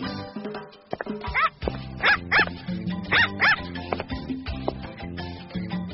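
Puppies yip and bark in quick high-pitched pairs, clear, over a soft steady musical background with no talking.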